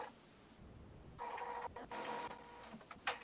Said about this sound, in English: What is that sound I'm hearing in the background? Sounds like a printer.